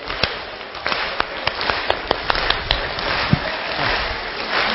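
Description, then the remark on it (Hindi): A crowd claps in a steady wash of overlapping hand claps, with sharper individual claps popping out irregularly over the dense background patter; no one speaks. “सभी ताली बजे।”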